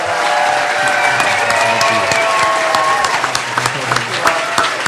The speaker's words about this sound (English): The audience has been very good, so we would like to thank everybody for being here, all of the candidates. A big round of applause.